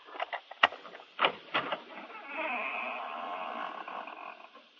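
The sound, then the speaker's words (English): A few sharp clicks and knocks, then a long, drawn-out creaking squeak of a door hinge as the front door of a house swings open, fairly quiet and with no voices. “Well, we've opened the front door now. Maybe you heard the hinge squeak a little.”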